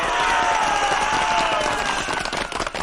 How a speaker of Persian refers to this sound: نمیدونم شما هم میشنوین؟ من یه صدایی میشنوم انگار یه عده دارن داد و فریاد میکنن.